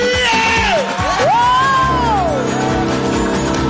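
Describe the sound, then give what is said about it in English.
A large crowd screams and cheers loudly, with high whoops and shouts rising and falling over a dense roar of voices, continuous throughout. “scream!”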